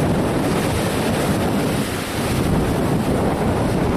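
Strong wind roars steadily across the microphone, a loud, dense buffeting rush that barely lets up, with a faint hint of surf or open water beneath it and no voices.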